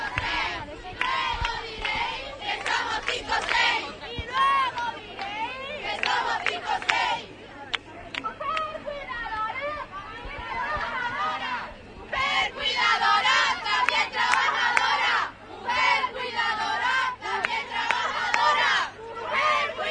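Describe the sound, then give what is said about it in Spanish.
A large crowd chants and shouts in loud, rhythmic bursts, many voices rising and falling together with brief lulls between waves of cheering at a street demonstration called by feminist movements and joined by all kinds of groups. “Y bueno, personas que al final vienen a título anónimo a continuar, a seguir, a apoyar esta manifestación convocada por los movimientos feministas, a las que se han ido sumando todo tipo de colectivos.”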